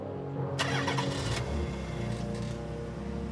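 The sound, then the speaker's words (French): The engine of a family's car, started by an intruder who has forced a young girl inside, cranks with a rapid grinding burst, then catches and settles into a steady low rumble as it idles. “Il força la plus jeune des deux sœurs à monter à bord de la voiture de ses parents et démarra.”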